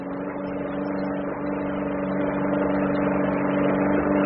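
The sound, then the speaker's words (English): A motorboat engine roars at full throttle on a river, a loud, steady drone with a strong low hum that holds and slightly swells for the whole stretch, with no voices. “That's full out.”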